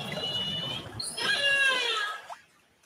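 Calls of a killer whale in a lagoon in British Columbia, recorded underwater by researchers using a hydrophone: long, nasal, harmonic squeals with a brief high whistle midway and a final rising upsweep, fairly loud over a steady hiss, with no talking.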